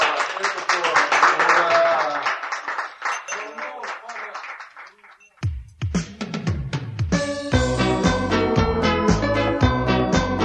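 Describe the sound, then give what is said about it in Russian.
A burst of applause mixed with cheering voices, at a gathering of gentlemen marking the birth of an anti-alcohol anthem, fills the first half, fading out before a band launches into a steady, rhythmic song with singing. “Итак, аплодисменты, господа.”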